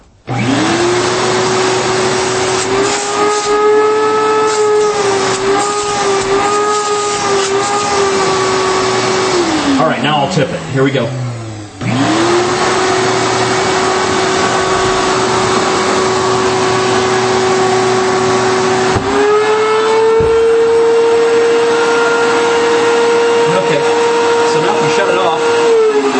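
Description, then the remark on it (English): A 10-gallon shop vac motor runs with a loud, steady whine while the vac is deliberately tipped; its pitch sags and briefly drops out midway as the float seals against the motor, before it roars back up to full speed. A man speaks briefly over the noise. “But all right, so here is the shop vac 10-gallon one, and I'll deliberately tip the thing too, so you can hear.”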